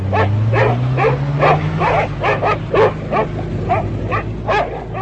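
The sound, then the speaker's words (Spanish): Dogs bark loudly and almost without pause, a rapid, steady string of sharp barks over a low engine-like drone that rises slightly in pitch early on; dogs with commandos and all-terrain vehicles searching the surroundings of the burning Treblinka camp for escaped prisoners. “mientras los comandos con perros y todoterrenos rastreaban los alrededores del campo de Treblinka en llamas.”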